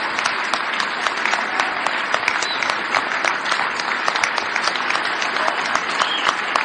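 Sustained audience applause, with Nancy Pelosi among those standing and applauding, a dense steady wash of many hands clapping at a fairly loud, even level for several seconds with no speech over it.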